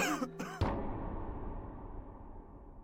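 A man coughs once at night, right outside the back door of a house: a short harsh burst after a brief breathy vocal sound, close by, with a faint outdoor hush trailing off afterward.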